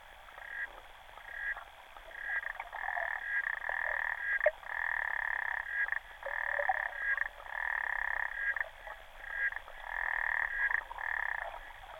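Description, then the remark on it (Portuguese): A chorus of frogs croaking continuously, with repeated pulsing bursts overlapping in a steady rhythm, fairly loud, with no voices present. “Obrigada por terem estado aqui connosco, com os sons das rãs e o enorme papel que teve Hilde Mangold no conhecimento.”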